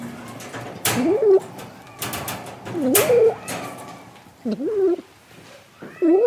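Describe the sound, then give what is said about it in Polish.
Cats meow four times in short, rising-and-falling cries spaced a second or two apart, with brief rustling and clattering noises between them. “Już, już, już. Niosę. Proszę bardzo. Miau, miau, miau.”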